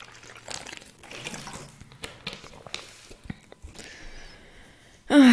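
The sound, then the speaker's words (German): Someone drinking water: intermittent sloshing and gulping liquid sounds, a brief pouring-like trickle, then a sudden loud clunk at the end. “Erstmal muss ich ein Stück Wasser trinken.”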